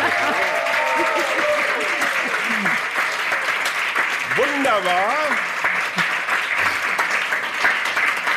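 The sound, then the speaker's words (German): A live audience at a recorded event in the Funke Mediengruppe lounge in Essen applauds steadily throughout, a dense, continuous clatter of many hands, while a man's voice speaks briefly over it. “Das sind zwar Leute, die nicht gesehen werden wollen auf dieser Veranstaltung, aber zu hören sind sie doch, oder?”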